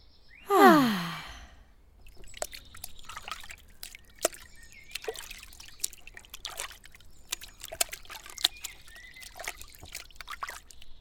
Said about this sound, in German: Na, dann lass uns jetzt Platz nehmen und die Füße ins Wasser legen und im Grünen entspannen.